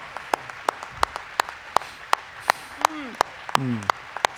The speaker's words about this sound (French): L'audience s'est levée pour applaudir.